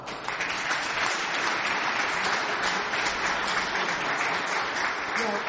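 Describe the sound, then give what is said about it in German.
Sustained applause from an audience, a dense, steady wash of many hands clapping at an even loudness throughout, with no voices standing out. The applause greets a speaker who is being given the floor. “Und das ist Ihr tosender Applaus.”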